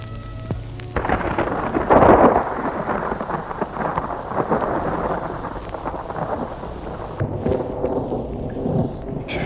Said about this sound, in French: Il fait chaud. Un temps lourd, très lourd et orageux.